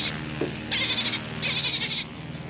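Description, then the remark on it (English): Two bursts of vocalization from the dolphin Flipper, shrill squeaky chatter each lasting about half a second with a short gap between, over a steady low background hum. “We can understand him by the different sounds he makes.”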